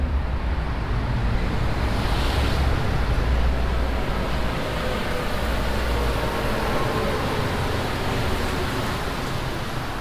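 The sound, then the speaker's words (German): A rubber-tyred metro train, running on 80 rubber tyres per train, rumbles along underground: a steady, continuous roar with a deep low-end drone and no voices, holding an even level for the whole stretch. “Bis Mitternacht quietscht die Metro auf ihren 80 Gummireifen pro Zug durch den Untergrund oder saust oberirdisch am allabendlichen Verkehrschaos vorbei.”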